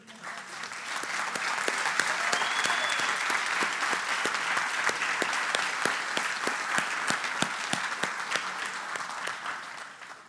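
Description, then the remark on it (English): A crowd at a graduation ceremony claps steadily for the graduates for about ten seconds, a dense wash of many hands with sharper individual claps standing out, holding a fairly even loudness throughout. “All right, we will let all of our graduates smile and look nice and pretty for some pictures, and we'll give them one more big round of applause.”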